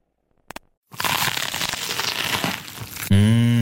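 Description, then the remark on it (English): A couple of quick faint clicks, then loud, sustained crunching as crispy, juicy vegan food is bitten and chewed for about two seconds, cut off by a low hummed voice. “Mmh, crunchy, kross und saftig.”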